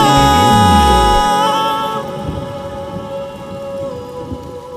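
Steady rain pours down while a deep, loud thunder rumble rolls through the opening seconds and then fades, leaving the rain's constant hiss with no voices.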